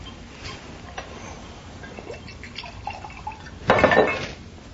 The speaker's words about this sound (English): I'll pour you a drink.